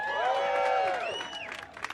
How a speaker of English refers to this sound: I heard that cheer. We can do that.